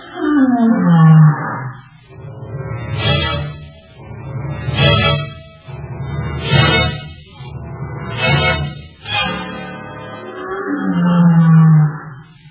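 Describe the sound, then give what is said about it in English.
A lion roars, opening with a long, deep, falling moan, then a rhythmic series of about six loud, gruff grunts, before another drawn-out low moan closes the sequence. “Listen to those grunts. You scared the devil out of me last night.”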